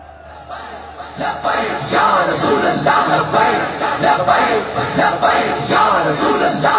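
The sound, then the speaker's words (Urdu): A large crowd at a conference, with Minar-e-Pakistan in view, chants political slogans in loud, rhythmic bursts, many voices shouting together in a steady repeating cadence that stays dense throughout. “بھائی میں نعرے تو لگنے ہیں”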